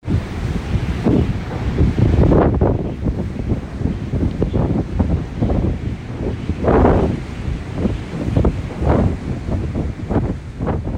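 Strong wind buffets the microphone in loud, continuous gusts while rough waves crash and surge, a dense roaring wash with no voices, recorded outside on the deck of a ferry on a Tuesday morning.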